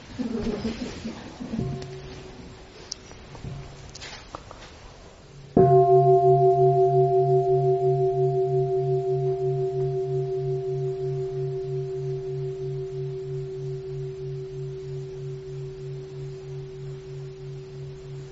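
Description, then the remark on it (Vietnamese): A deep bell is struck once, its warm, wavering hum ringing out and slowly fading over many seconds. Some faint voices and rustling come just before the strike. “Chà, chỗ này cam go dữ, chắc nghe tiếng chuông.”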